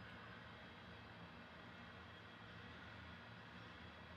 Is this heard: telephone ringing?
no